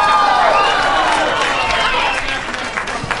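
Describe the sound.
An audience applauds in a steady, dense wash of clapping that holds for a few seconds, with scattered cheers and crowd voices mixed in before it begins to thin out.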